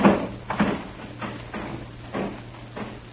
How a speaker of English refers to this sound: Open that back door.